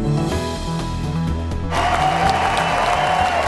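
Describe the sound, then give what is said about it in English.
A large crowd at the GOP convention breaks into steady, loud applause partway through as Governor Baker is welcomed to the stage, a dense wash of clapping that swells in over a sustained musical tone and continues to the end. “Governor Baker was welcomed to the GOP convention stage with applause and hugs”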